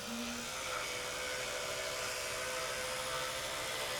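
An electric toothbrush buzzes steadily, a continuous high-pitched motorized whir with a faint scrubbing texture that holds at an even level throughout, as a father brushes his daughter's teeth with it; no voices.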